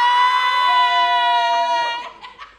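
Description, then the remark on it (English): A live audience, asked to cheer if they don't like the host's polls, gives a loud, sustained high-pitched cheer that rings out steadily for about two seconds, then breaks into scattered, fading whoops and crowd noise. “Okay, so cheer if you don't like my shit polls.”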